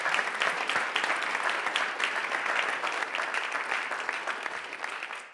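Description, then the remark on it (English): A church audience applauds steadily to welcome a newly married couple, many hands clapping in a dense, even wash of sound that holds at a consistent level for several seconds before easing slightly at the end. “Just give them a big round of applause there, folks.”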